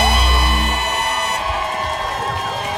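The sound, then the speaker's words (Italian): A Tiny Desk concert audience cheers and applauds loudly and steadily, whoops and shouts rising over a dense wash of clapping, with some sustained musical tones lingering beneath the noise at the start. “Va bene, sulle note di questi applausi, di questo Tiny Desk che mi ha accompagnato per tutto questo tempo”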